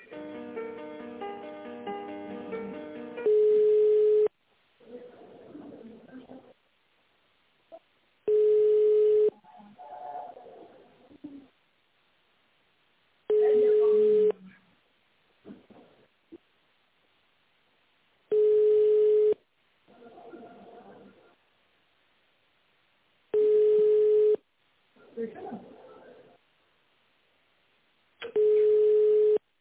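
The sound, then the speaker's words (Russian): A telephone ringback tone sounds six times, each a steady low beep about a second long, spaced evenly at roughly five-second intervals, with faint muffled background noise between rings and a brief melodic snippet at the start; a call transferred within the company Rostov-Avtodor that goes unanswered. “А я сейчас вас переключала, там трубку не взяли? Нет, не взяли.”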